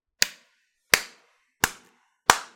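A slow clap: four sharp, crisp hand claps spaced evenly about two-thirds of a second apart, each with a brief decaying ring, with no talking.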